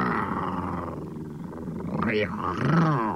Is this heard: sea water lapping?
no